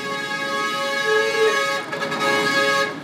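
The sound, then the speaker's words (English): A car horn sounds in Port-au-Prince, Haiti traffic, a sustained, steady blare for about three seconds, bright and loud with rich harmonic tones, wavering slightly in level midway. “So if you're going to drive, you need to know what the different horns mean.”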